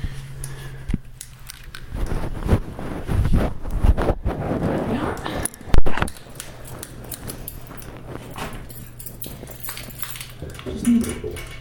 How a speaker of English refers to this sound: Right, now let's see how much junk mail I have in this mailbox. I have to put the Olympus in my pocket. Pardon the rustling here, folks.